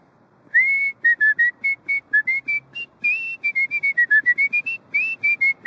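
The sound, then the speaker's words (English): A man whistles a lively tune on a weekend afternoon in the old port of Portland, Maine, a quick run of bright, clear notes rising and falling in a steady rhythm, with no talking. “I live in South Portland, Maine, and I like to whistle.”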